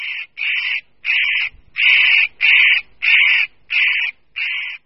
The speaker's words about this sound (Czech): Pro ornitologa to znamená, že se ocitl přímo v jeho hnízdním okrsku, který samec bedlivě střeží a varovným pokřikem upozorňuje partnerku na případné nebezpečí.